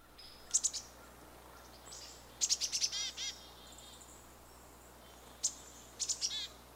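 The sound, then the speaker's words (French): A great tit sings in short bursts of bright, high-pitched repeated notes, several clear phrases separated by pauses over a soft, steady background hiss, with no talking. “Tendez l'oreille, voici son chant.”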